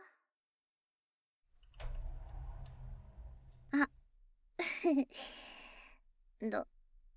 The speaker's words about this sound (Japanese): 扉開けんよ。